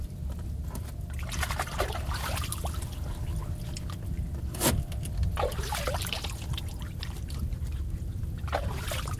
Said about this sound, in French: Ah oui, la vase bouge, on peut dire, enfin. Regardez. Ça frémit, on voit, ouais. On voit les bulles, les vers, des quelques avignons qui restent dans la vase font des bulles.